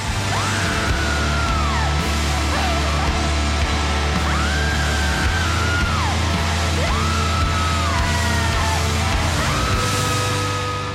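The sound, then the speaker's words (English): A loud, raw rock vocal of sustained screams and wails recorded in a studio for the end part of a song, each long cry rising and falling in pitch, over a dense, driving band with heavy low end throughout. “Because you are just out of body, screaming, wailing, you know.”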